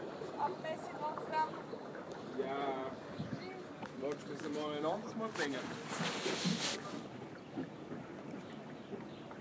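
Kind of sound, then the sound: vehicle, boat crossing a river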